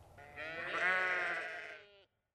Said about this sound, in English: It's very green here. There are lots of sheep.